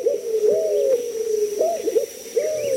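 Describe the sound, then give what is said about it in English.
A white-crowned pigeon, a Caribbean bird, calls in the Keys in low, hollow coos, three rolling phrases with short rising notes, alone with no voices, over a faint, steady high-pitched whine. “You might imagine yourself in Cuba or the Bahamas, and you might see another Caribbean bird, the white-crowned pigeon.”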